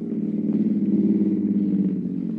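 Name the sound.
car pulling up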